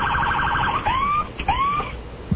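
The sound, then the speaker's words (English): A paramedics' ambulance siren in New York sounds loud, starting with a rapid electronic warble and then switching to two rising whoops, with no one talking over it. “What kind of siren you got? Oh, it makes all kinds of noises here.”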